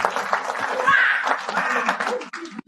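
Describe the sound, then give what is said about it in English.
An audience at an EFF gathering breaks into a steady round of applause for EFF leader Kenny Motsamai, a dense wash of clapping that holds at an even level for a few seconds with a murmur of voices mixed in. “Let us please give him a round of applause.”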